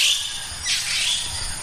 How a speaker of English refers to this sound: The birds in the morning.